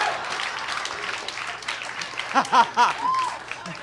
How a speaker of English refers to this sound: But then I hit my goal weight. Shut up, don't applaud that.